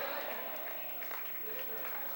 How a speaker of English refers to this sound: Clap your hands. If you're doing it and don't want to do it, don't you clap. God Almighty. Oh, clap your hands. Them for folk who they know God done something for them.